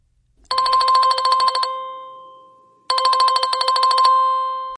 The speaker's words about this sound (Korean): 하여튼 조금만 안 보이면 곧바로 전화 온다니까요.